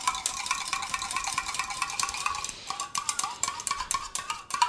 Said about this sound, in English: Now, a quick whisk of the dressing, because it's been sitting here a bit.